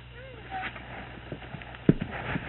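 A horse's hooves clop a few times in an uneven pattern as the horse is being loaded, moderately loud, over a low steady background hum.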